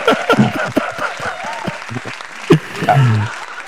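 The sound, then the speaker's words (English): A short burst of applause from a small group, irregular claps rattling for a few seconds while voices murmur and chatter underneath. “Yeah, you go ahead, do the cheers. Yeah, it was a short clap.”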